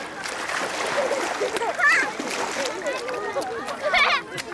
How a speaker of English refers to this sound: Splash, splash.